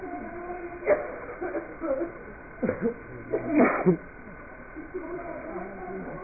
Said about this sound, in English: So many sneezes all together. I don't understand why. Is there anything in this room?